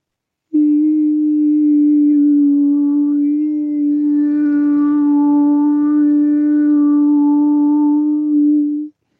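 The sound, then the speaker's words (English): A single voice holds one steady, mid-pitched sung vowel for about eight seconds, loud and even, its tone shifting slightly in color partway through before it stops abruptly. “Whereas coherent, stable vibrations are like the vowels, like this.”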